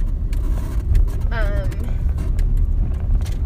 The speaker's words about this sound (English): Like, sorry, I just passed an ice cream truck and that sounded so awful.